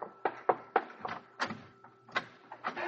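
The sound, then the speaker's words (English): The door of a room in the White House being opened, heard as a quick series of sharp clicks and creaky, rattling knocks that come in a rough, uneven rhythm, fairly loud, with no voices. “You can open the door wider, Mary.”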